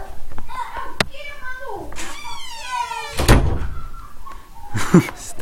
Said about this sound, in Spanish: Así que, bueno, un segundo, voy a cerrar la puerta.